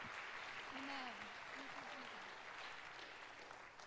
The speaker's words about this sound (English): If you believe that tonight, give a hand clap of praise to Jesus.